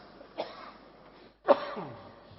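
Two separate coughs from a Buddhist lay follower about a second apart, the second louder and harsher with a rough throaty tail, against quiet with no talking.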